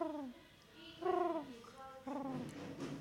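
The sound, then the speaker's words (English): A person softly imitates a quiet pigeon's coo with their voice, three gentle, warbling hoots in a row, each rising and falling, fairly quiet. “I can sort of do a bit of a pigeon.”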